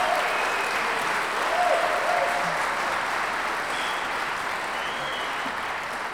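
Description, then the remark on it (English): An audience at an Acoustic Stage evening show claps steadily for the performing musicians, a dense, even wash of applause that holds at a fairly loud level for several seconds without fading. “Give them a round of applause for their great effort.”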